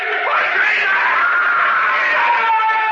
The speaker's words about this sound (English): He began to scream. But then, after a while, he was silent.